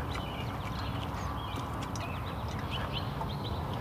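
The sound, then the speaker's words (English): Scattered calls from a blue jay ring out in the morning over a steady low outdoor rumble, short harsh notes repeating irregularly, with no talking. “It's a blue jay.”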